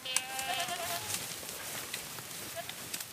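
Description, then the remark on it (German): A herd of goats bleating outdoors, with a drawn-out wavering call at the start and a few shorter, fainter bleats scattered afterward over a soft, steady background hiss. “Und dann ist natürlich eine Herde mit Ziege besser wie mit Maschinen, weil man da viel mit kaputt macht.”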